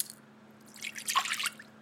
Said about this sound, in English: Victor Blossom poured his son a bowl of cereal.